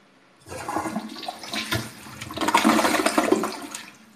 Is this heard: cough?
no